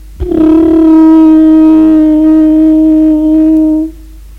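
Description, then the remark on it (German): A conch shell horn sounds one long, steady blast for nearly four seconds, a loud, buzzy low tone rich in overtones that starts abruptly and cuts off cleanly, with no voices. “Hörten sie ein Muschelhorn.”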